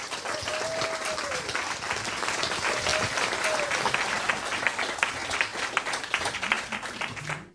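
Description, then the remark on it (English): A crowd applauds steadily for several seconds to welcome authors Mindy Mejia and Kerry Griffith, a dense, even patter of many hands clapping that holds at a fairly loud level, with a few faint voices calling out underneath. “Ladies and gentlemen, please give a warm welcome to Mindy Mejia and Kerry Griffith.”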